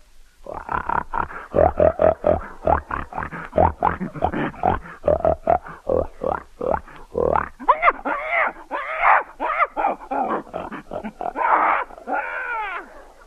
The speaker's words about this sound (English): A pig.